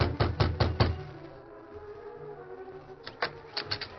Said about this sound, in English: Perry knocked on the door of the cabin.